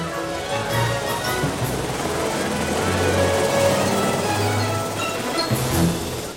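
The Callaway Cellular helicopter descending and landing by a baseball game, a steady, heavy roar filling the whole stretch, with a low throbbing engine hum beneath a broad wash of rotor noise and no one speaking.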